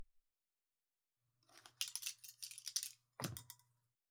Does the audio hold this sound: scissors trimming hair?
yes